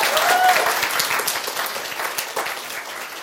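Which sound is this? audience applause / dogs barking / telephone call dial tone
audience applause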